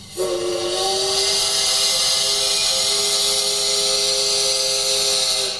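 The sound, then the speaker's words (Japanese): A model train's steam whistle, sounded by pressing a switch on a railway display, blows one long, steady, harmonic blast lasting about five seconds, loud and unbroken, with a hissing breathy edge and no talking. “なんかいろんなとこスイッチがあって、なんだろう、汽笛の音を聞いてみよう。”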